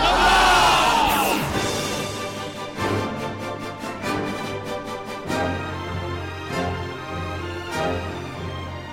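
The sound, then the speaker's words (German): A large crowd erupts in loud cheering and shouts, then settles into sustained applause with a stretch of rhythmic, in-unison clapping, whoops rising over the noise throughout. “Applaus!”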